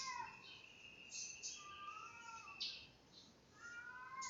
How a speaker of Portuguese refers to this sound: Eita, tem uns gatos berrando. Que é isso? Será que eles estão trepando?